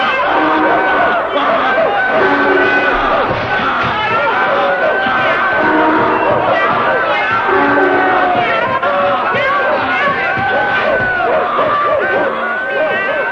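A donkey, a dog, a cat and a rooster cry out together at a house window: a loud, chaotic tumult of overlapping braying, barking, crowing and yowling, mixed with shouts, keeping up a dense, unbroken din for the whole stretch.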